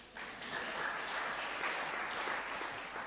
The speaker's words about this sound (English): Well done. That's probably worth a clap.